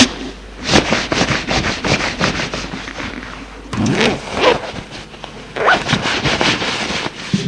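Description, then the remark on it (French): Rustling of clothes as a man undresses, with a zipper pulled in several quick rasping strokes, then fabric shuffling between pulls. No one speaks. “Ensuite, il se déshabille.”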